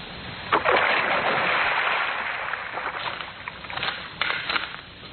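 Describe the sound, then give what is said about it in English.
A woman's body is thrown into a river: a heavy splash hits the water about half a second in, then churning, rushing water continues loudly for several seconds before settling into a rougher, fading slosh. No voices are heard. “Now, into the drink she goes.”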